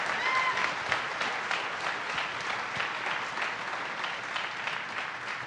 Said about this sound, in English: And one more round of applause for my guests